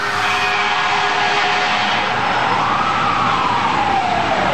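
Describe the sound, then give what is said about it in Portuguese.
Loud, dense traffic roar of a big city fills the scene while an emergency siren wails, its pitch sweeping up and then gliding back down over the constant din, with horns in the mix. No voices. “é o que acontece em grandes cidades quando sons de qualquer natureza, como buzinas, sirenes, música e gente conversando em locais fechados podem se tornar insuportáveis.”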